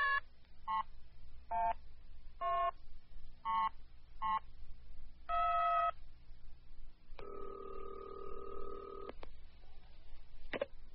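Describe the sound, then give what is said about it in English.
A newly installed telephone in a house on top of a mountain is dialed to call Eastport: about eight short, bright touch-tone beeps at an uneven pace, then a longer steady buzzing tone and a brief click at the end. No one speaks. “The first thing Kim did was pick up the phone to call her mother back in Eastport.”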